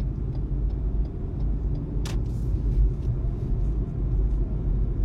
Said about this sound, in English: We're gonna take these back roads because I'm driving towards the high school, and at this time, there's always too many cars.